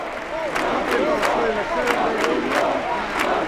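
A large crowd of thousands of marchers on the Las Ramblas promenade chants 'I'm not afraid' in Catalan in unison, voices rising and falling in a steady rhythmic pattern with sharp claps or beats punctuating it, loud and continuous throughout.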